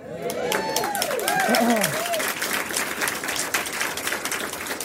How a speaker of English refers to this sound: That's pretty good, sizable applause there. That was pretty good. Thank everybody for coming out again.